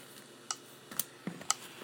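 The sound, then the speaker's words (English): Soft electronic clicking from a computer running Handbrake Batch software, a handful of short, crisp ticks spaced about half a second apart, fairly quiet against a faint background hiss with no one speaking. “The clicking you're hearing is handbrake batch.”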